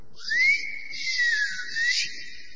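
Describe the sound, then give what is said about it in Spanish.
A person whistles to call someone, a long, sliding call in several rising and falling swoops, clear and fairly loud, with no talking. “Antes muchos novios, un poco machistas hay que conceder, llamaban a su novia con chiflidos.”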